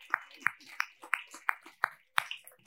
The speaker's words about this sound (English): Clapping for them. Yeah. No, seriously. Yes, let's keep clapping.